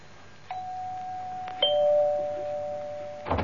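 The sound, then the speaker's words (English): A doorbell chimes two notes, a higher ding followed by a lower dong, each tone ringing out and sustaining over a faint background hiss before cutting off. “Oh, that's the door.”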